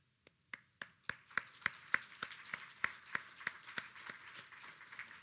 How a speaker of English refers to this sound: I was really honored to be part of a fantastic planning committee, so I'd like to take time to give a round of applause to all of them.